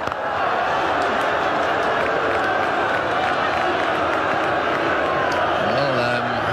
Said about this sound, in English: Booing going on here, but I really don't think they know what's happening. They don't understand that this is working for the Australians in the next round.